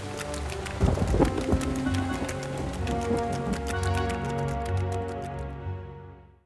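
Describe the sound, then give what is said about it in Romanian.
Heavy rain pours down steadily alongside gusting wind under a sky darkened with clouds, a dense wash of noise with no voices, holding strong for several seconds before fading out at the end. “Între timp, cerul s-a întunecat de nor și de vânt și a început o ploaie mare.”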